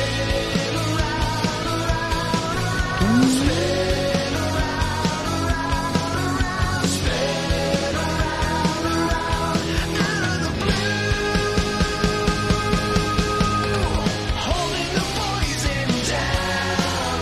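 A full rock band plays loudly and continuously, with driving drums, dense distorted guitars and sustained harmonies filling the whole stretch; no one talks over it.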